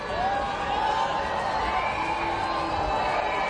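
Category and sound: crowd, crowd booing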